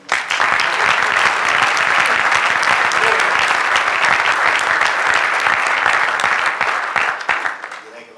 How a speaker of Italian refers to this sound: E poi l'altra cosa che mi piace sottolineare è che comunque tutti i nostri piloti sono riusciti a salire sul podio almeno una volta, e 4 dei nostri 6 piloti hanno vinto almeno una gara. Un applauso.